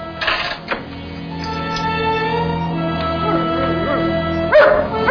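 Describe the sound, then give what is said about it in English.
A dog lets out a few sharp barks, at the start and again near the end, with drawn-out whining and whimpering in between. “Dog, haven't you? Helped your old master a lot.”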